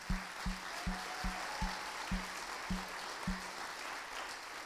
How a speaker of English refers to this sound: So, first of all, we've got to say publicly that the women over here on this side, they're the better part of the ministry. And you all can, yes, you can applaud them.